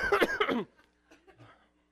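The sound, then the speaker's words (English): A loud burst of rough coughing lasting about half a second, followed by a pause and a few quieter, muffled throat sounds. “The only thing that gives me hope is that, I mean, besides my coughing, excuse me.”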